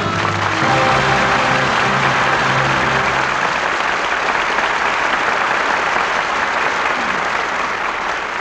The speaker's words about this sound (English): Your applause gives a proper salute to three fine performances.